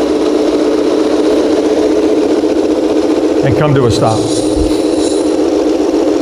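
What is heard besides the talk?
aircraft engines idling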